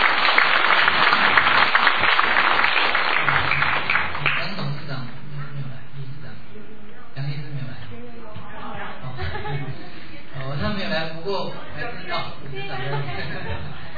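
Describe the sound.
At a concert, a crowd breaks into loud, dense applause for about four seconds to invite a doctor to speak, then it fades as a man begins speaking over faint murmuring.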